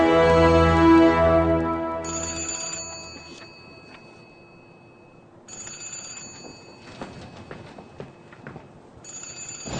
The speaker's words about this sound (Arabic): رد على التليفون يا فضيله المرشد. رد على الاقل تريحنا من وجع الدماغ ده.